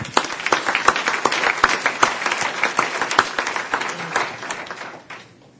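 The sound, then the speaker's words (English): An audience at a CGI session applauds itself for the ideas it generated: steady, dense overlapping claps with sharp individual hits standing out, loud, then the clapping thins and fades out in the last half second. “So give yourself a round of applause.”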